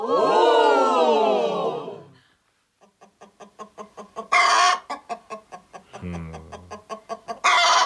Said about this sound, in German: Oh, da ist wohl jemand sehr überrascht. Und wer gackert danach?